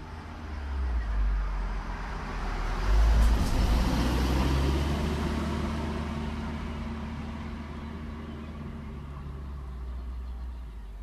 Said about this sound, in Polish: Samochody. Samochody to przeważnie Saaby i Volvo, trochę Volkswagenów. Dużo jest samochodów hybrydowych, w których króluje Toyota Prius. Praktycznie każda taksówka w Sztokholmie to Toyota Prius.